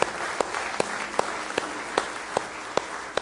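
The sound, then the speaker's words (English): An audience claps hands in praise to the Lord, a dense wash of applause punctuated by sharp, steady unison claps roughly twice a second, sustained throughout, with no talking. “give him a good hand clap of praise.”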